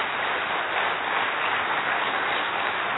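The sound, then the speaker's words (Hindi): A large audience claps for themselves in a steady, dense wash of applause that holds at an even level for a few seconds, with no voices rising above it. “अपने लिए ताली बजा लो।”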